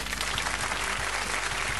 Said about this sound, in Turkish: Sonuçta iki gün kolasız kalamayacağını bildiğinden dolayı bir alkış daha.